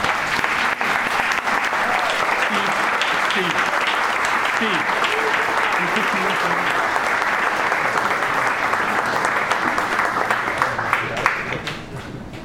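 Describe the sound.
Sustained standing applause from an audience at an evening presentation for an architectural collections exhibit, a dense, steady wash of many hands clapping for about twelve seconds, with scattered voices and cheers mixed in before it begins to fade at the end.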